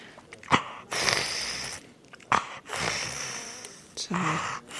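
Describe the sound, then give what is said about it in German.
An animal breathes heavily, with three long, raspy breaths a second or so apart, each set off by a short, sharp snort-like burst, getting air well through airways that are now wider at the back. “Das ist nicht schlecht, wie er jetzt schnauft. Es kommt gut Luft.”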